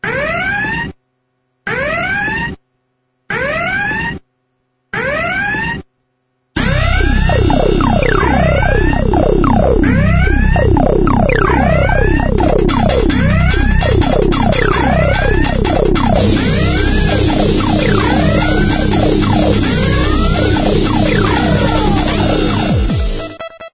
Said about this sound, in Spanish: Y ya en este tramo final del Guardián, al ritmo de las sirenas que siempre nos acompañan para hablar de las alertas de seguridad,